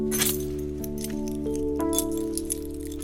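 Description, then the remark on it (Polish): A metal house key clinks and jingles, with several light taps over a few seconds and a faint ringing tone lingering between them. No one speaks. “Klucz od domu. Od ich domu.”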